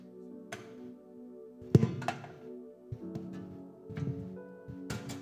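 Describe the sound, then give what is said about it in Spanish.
A chair being moved and set down: a series of dull wooden thunks and bumps, with one louder knock early on and several softer knocks after it, and no one speaking. “pásame esa silla”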